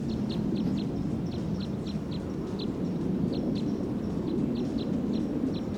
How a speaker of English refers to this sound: The flight just arrived on the scene. And the crossbill, the wild crossbill, took off and joined the pine siskin. It was a little ways away.